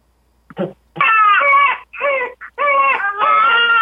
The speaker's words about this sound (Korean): 아기 울음 소리. 아, 아기 울음 소리.